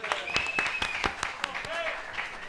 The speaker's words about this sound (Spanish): Sí, sí, mira, tenemos un... voluntario, un aplauso al voluntario.